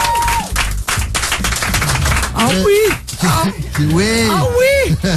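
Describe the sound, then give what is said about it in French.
Dense, steady applause from a studio audience on Virgin Radio in 2008, at 18:23, for guests appearing live, fills the whole clip, with rising and falling voices cheering and whooping over the clapping in the second half. “Applaudissements pour nos invités qui sont ce soir en live.”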